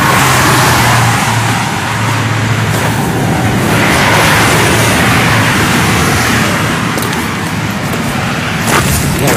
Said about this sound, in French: On arrive à Abu Dhabi, mais c'est invraisemblable. Là, vraiment, c'est invraisemblable. Cette file de camions, il y a 2 km de camions. On vient de franchir un parking de 2 km, d'énormes camions de construction, d'énormes camions de chantier